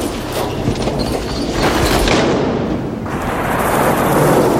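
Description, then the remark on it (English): A Purolator courier truck drives past with a loud, steady engine roar and broad road rumble that shifts in tone partway through, then swells again. No one speaks. “There's a Purolator courier truck goes by.”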